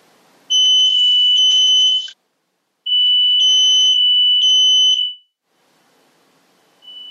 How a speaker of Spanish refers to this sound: Se activó una alarma, aquí donde estoy. Discúlpeme. No se preocupe. Discúlpeme. ¿Es una alarma contra incendios? ¿Todo está bien? Sí, no, todo está bien. Alguien que estaba cocinando y emitió mucho humo.